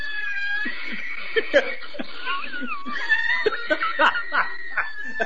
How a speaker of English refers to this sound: So somebody sent me a video of a cat hissing. So I'm going to play it for you guys right now, and it is so funny. This cat's in a cage, and somebody walks up to it, and listen to this thing.